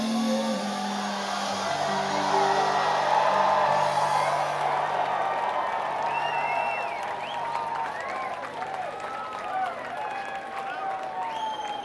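A crowd applauds and cheers in a dense, steady roar of clapping for about twelve seconds, with whoops and whistles rising above it and a fading musical tone underneath at first.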